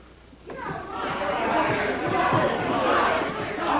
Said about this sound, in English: Out in the hall, an angry crowd closes in on Christine.